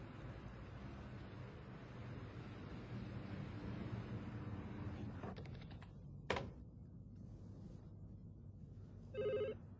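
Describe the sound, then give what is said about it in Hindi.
Steady room noise with a few clicks and a sharp knock, then a short, bright burst of telephone ringing near the end. No one speaks. “Hello, sorry sir, कातिब साहब का phone है।”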